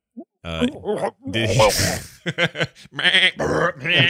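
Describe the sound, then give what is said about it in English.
A goat bleats and vomits, a string of wavering, nasal bleats broken by a rough, noisy heaving burst in the middle, loud and continuous for several seconds. “a goat puking has got to be the cutest throw up you've ever seen.”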